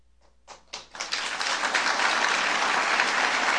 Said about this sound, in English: It's one of the few times the president was interrupted for applause by the crowd, mostly of students at George Washington University.